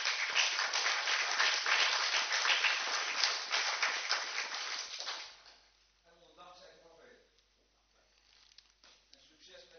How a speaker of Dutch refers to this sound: Wil je even naar voren komen? En dat doe jij onder een luid applaus, daar ben ik van overtuigd.